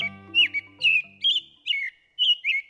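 An American robin sings a steady series of about six short, clear whistled phrases, fairly loud, with a low sustained tone fading out beneath the first second.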